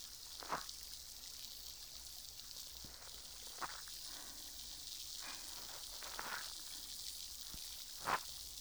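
A steady, soft high-pitched fizz of carbonated bubbles hisses, with a few scattered sharper pops breaking through every couple of seconds. No one speaks.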